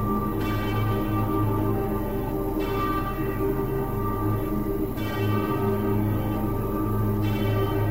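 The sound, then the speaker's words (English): An Italian village church bell rings steadily, with strong strikes roughly every two to two and a half seconds, each leaving a long, humming resonance that overlaps the next. No one speaks. “they could identify the sound of their particular village bell over any other bell absolutely instantly”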